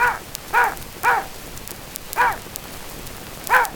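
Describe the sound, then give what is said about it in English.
A dog named Toby barks five times to count out the answer to three plus two, three quick barks followed by two more spaced farther apart, each one clear over a steady crackling hiss in the background. “You was a smart dog.”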